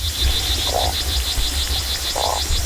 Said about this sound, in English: So instead of this cacophony, you get this. The isolated sounds of river bugs. Or fish grunts.